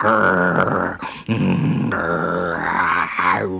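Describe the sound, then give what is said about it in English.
A voice imitates a tiger's growl: two loud, rumbling snarls, the first breaking off briefly before a longer, rising growl follows. “the tiger sprang out and growled.”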